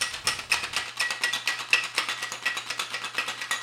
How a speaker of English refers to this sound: And now 3/4 of an ounce of lime juice, 1/2 ounce of simple syrup, 1.5 ounces of our vodka, and shake it up with some ice.